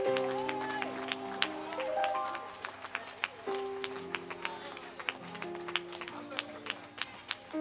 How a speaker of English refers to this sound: Give him a super clap offering. Stand to your feet. You cannot sit down. You cannot sit down.